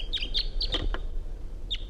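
A wild male bird, sitting at the top of a small ponderosa pine, gives a run of sharp, high chirps, four quick notes in a cluster, then one more after a pause, with steady low background noise underneath.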